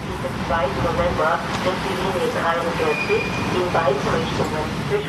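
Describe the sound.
Tram depot ambience at the Wiener Linien depot in Hernals, Vienna's 17th district: a steady low mechanical rumble fills the space, with indistinct voices murmuring throughout and a thin high-pitched whine briefly rising in the middle.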